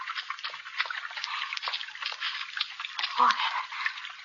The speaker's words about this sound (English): Water again.